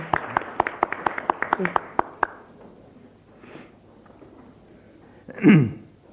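A short burst of applause at a morning meeting for young ladies who are leaving: about a dozen crisp, evenly spaced claps over two seconds that stop abruptly, leaving a low murmur before a brief louder swell at the end.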